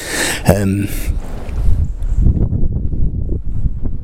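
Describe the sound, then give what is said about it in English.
Wind buffets a microphone at a church in a steady low rumble that runs the whole way through, with a brief sharp burst near the start and faint, muffled voices underneath. “So it's windy, and as I say, the quality is not going to be as good on this as my other ones.”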